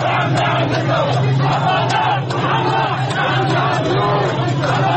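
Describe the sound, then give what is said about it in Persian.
A large crowd of protesters in Ahvaz, Khuzestan, chants Arabic slogans in the streets on a Sunday night in support of Abadan and Khorramshahr. Many voices shout together in unison in a steady, rhythmic cadence that stays loud and dense throughout, with no single speaker standing out. “اهوازی‌ها با شعارهای عربی ضمن حمایت از آبادان و خرمشهر به انقلاب آری گفتند.”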